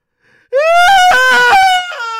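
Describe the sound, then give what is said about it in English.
A voice imitates loud, wailing sobs: a short faint intake, then a sustained, strained cry with wavering pitch and choppy catches, intense for about two seconds. “I would weep deeply.”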